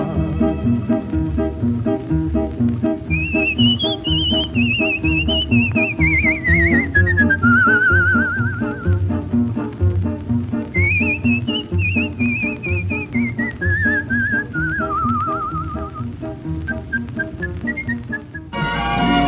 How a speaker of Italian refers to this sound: A mezzanotte tu non mi fai compagnia ed io fischiando va per la deserta via.